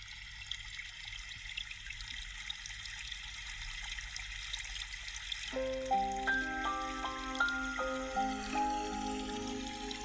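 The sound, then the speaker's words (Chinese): A steady trickle of a stream flowing through dense woods runs throughout, and about halfway through a soft melodic instrumental line comes in over the continuous babble of the water. “潺潺的小溪，正流向远方，穿过浓密的树林，到处是参天大树，枝叶茂密”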